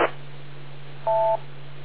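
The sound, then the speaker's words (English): A single short two-tone radio beep tone, partly disrupted by an interferer on the radio channel, steady and mid-pitched, lasting about a third of a second over a constant low hum and faint static, with a brief burst of noise at the start. “Yeah, no, if, the interferer didn't let the beep tone go through.”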